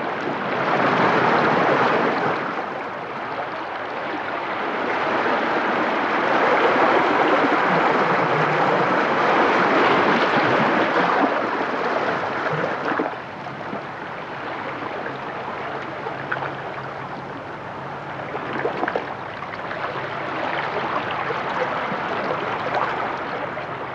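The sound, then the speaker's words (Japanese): Small, gentle waves wash steadily against a rocky shore at Cape Tatsumaizaki on Kesennuma Oshima island, Japan, on a calm day, a continuous soft hiss of surf with brief swells and fades as water breaks and drains away. No voices. “あれから10年、辰舞崎は名前の通り、悪天候時にはまるで竜が舞っているかのような荒波になりますが、この日はとても穏やかで、小さな波が消える瞬間の音まで優しく聞こえてきました。”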